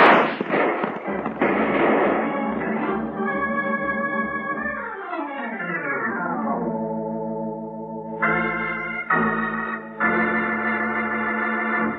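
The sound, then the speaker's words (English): A rapid volley of about six sharp gunshots from a six-gun cracks out over a noisy scene, then gives way to sustained musical tones that slide downward and settle into a steady chord. “Put that six gun to work.”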